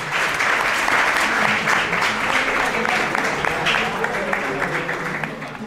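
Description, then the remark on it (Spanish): A crowd at a high school (instituto) claps steadily for several seconds, a dense, sustained burst of applause with many overlapping hand claps, fairly loud throughout and holding level to the end. “Voy a presentar al invitado de hoy, pero antes, llévate tu aplauso, por favor.”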